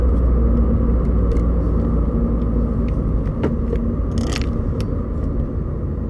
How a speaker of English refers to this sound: I'm stuck behind a cement truck on a big hill.